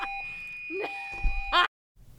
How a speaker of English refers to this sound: Okay, well, we're having a fire alarm, I believe. So we'll be right back.